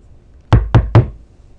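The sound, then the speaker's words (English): Three firm knocks on a wooden front door in quick, even succession, loud, with quiet around them and no voices. “She knows that knock brings loyal support to the Patriots' cause, but like any fight for sovereignty, even such a sound of allegiance courts potential threat.”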